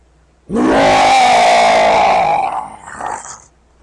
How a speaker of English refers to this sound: Snarling and scraping at the concrete, the manticore appeared at the door, trying to get inside but being held out by its size.